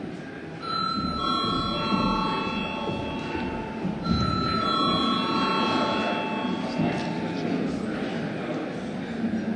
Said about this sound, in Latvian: Tātad atsākam sēdi, lai pārbaudītu sistēmas darbību. Veiksim klātbūtnes reģistrāciju. Tātad lūdzu zvanu.